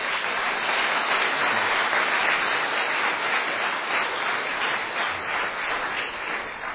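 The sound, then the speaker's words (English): A debate audience applauds its moderator steadily at the end of the debate, a dense, sustained wash of many hands clapping at once that holds at a fairly even level throughout, with no voices standing out. “First and foremost, I'd ask for your round of applause and thanks to our moderator, who's done a great job.”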